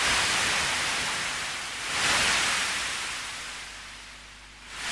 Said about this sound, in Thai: แต่สำหรับมนุษย์นั้นก็คงเชื่อแน่ได้นะครับว่าเสียงคลื่นที่ม้วนตัวซัดฟังจะยังคงเป็นมนต์ขลังเรียกร้องสำหรับร่างกายและหัวใจที่ต้องการทะเลอยู่ต่อไปครับ